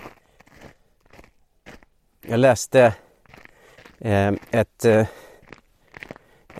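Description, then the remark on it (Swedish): Soft, steady crunching footsteps in snow, a string of faint gritty steps that carry on beneath a person talking. “Jag tänker det kanske är en skön omväxling mot det här knastret.”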